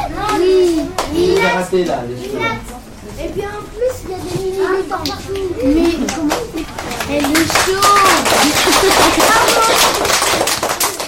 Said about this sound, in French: Cette émission se termine sur les applaudissements des élèves